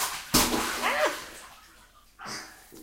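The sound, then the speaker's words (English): Sudden splashes of water in a bathtub, one sharp burst near the start and another toward the end, with a brief high voice or squeal between them. “You're recording the sound of y'all's laughing and splashes.”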